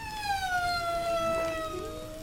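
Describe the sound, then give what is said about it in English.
A male and a female humpback whale calling to each other after a visit together to the sand spa: a long, smooth, wailing moan that glides slowly downward in pitch, with a second, lower tone rising beneath it toward the end. “In this recording, you can hear a male and a female humpback communicating after a visit together to the sand spa.”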